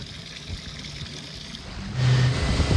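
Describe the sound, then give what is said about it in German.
A motorboat engine rumbles steadily against wind and water noise, then revs up louder near the end as the boat pulls away, heading out into a storm for winter pike fishing on the Bodden. No one speaks. “Wir machen uns jetzt auf Boot und fahren raus in den Sturm.”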